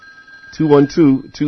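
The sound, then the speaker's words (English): A telephone rings in short, repeated electronic bursts, fairly loud, preceded by a faint steady high tone, as a caller dials in to a pledge number. “One of your neighbors has discovered that number already and is dialing.”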